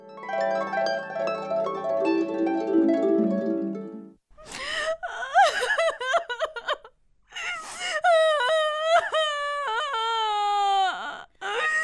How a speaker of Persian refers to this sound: عزیزم عزیزم، گریان نکن دیگه، گریان نکن، قد جگر خون نباش. خب آرام باش، آرام باش، گریان نکن، گریان نکن دیگه عزیزم.